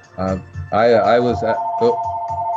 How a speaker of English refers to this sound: Now the phone's ringing. Cool. I don't know if it's for me, if I should answer.